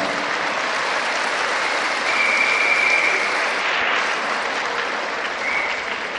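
A crowd applauds the Virgin Mary steadily for about six seconds, a dense wash of many hands clapping at an even loudness, with a faint whistle or cheer rising briefly in the middle.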